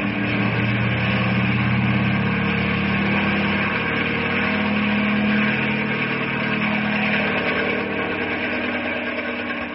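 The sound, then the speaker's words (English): A helicopter loaded with boxes of supplies drones loudly and steadily as it takes off, a dense mechanical roar over a low humming tone that wavers slightly in pitch, with no voices. “Bring the copter closer”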